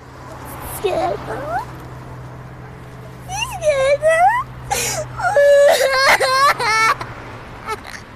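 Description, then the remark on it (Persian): A person cries and whimpers in wavering, high-pitched bursts, breaking off between sobs; the wails are fairly loud over a low, steady background hum, in a scene from a feature film by Mirkarimi. “اشکال نداره، گریه نکن، اشکال نداره، میگم زیر ماشین نری.”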